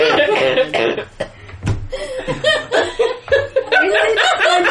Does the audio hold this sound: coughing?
yes